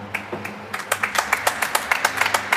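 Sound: studio audience clapping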